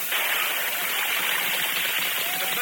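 A horse jumps into water, splashing: a loud, steady rush of churning spray that fills the whole moment without letting up, with no voices.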